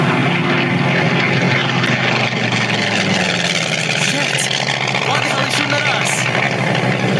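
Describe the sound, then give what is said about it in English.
Jet planes, not Navy planes, roar overhead in a loud, unbroken wash of engine noise, the pitch subtly shifting as they sweep past and the thunder holding steady throughout. “Those don't look like no Navy planes. They sure don't. Oh, hell. Those are damn jet planes.”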